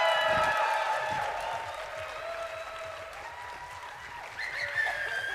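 An audience applauds steadily for several seconds, a dense wash of clapping with some cheering and whoops rising near the end.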